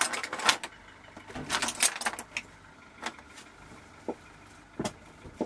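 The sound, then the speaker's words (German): The electric motor of a solar car is started for a test drive: a low, quiet hum sets in and holds steady beneath scattered clicks, rattles and a jangle of metal, with no one speaking. “Leise beginnt der Elektromotor zu brummen. Das ist schon was anderes als ein röhrender Verbrennungsmotor.”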